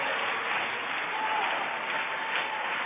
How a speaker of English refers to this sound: Hallelujah. Why don't you clap, rejoice a little for a preacher and a covering in your life.